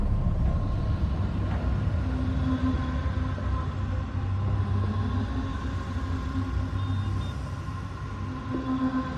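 Steady street ambience dominated by a continuous low rumble of traffic and engines, with faint tonal hums, constant throughout, as a woman walks along the street, with no distinct voices.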